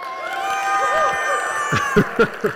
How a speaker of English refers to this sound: So what we're going to do is you guys are going to turn around, and this place is going to wildly cheer for you to let you know how much they love you and appreciate you. Ready? Go.